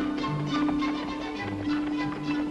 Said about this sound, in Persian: نه، شاید صدای قطاره. یه اسبه. آره، صدای پای یه اسبه، من مطمئنم.